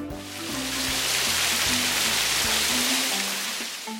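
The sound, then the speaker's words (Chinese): Steady rain pours down in a dense, even hiss, loud, while a gentle melody of soft tones plays underneath throughout; rain falling outside on a street where many people hold umbrellas. “下雨了！”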